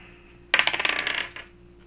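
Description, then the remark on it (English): A quick clatter of dice rolled for an attack in a tabletop role-playing game, tumbling across a hard tabletop, a burst of rapid bright clicks that rattles for under a second and settles, with no talking. “These dice are kind of funky. I might switch back to the other ones.”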